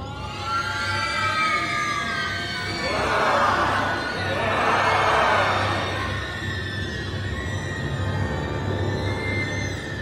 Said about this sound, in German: Doch eines Nachts kommt das Monster. Wir hören Monsterschrei.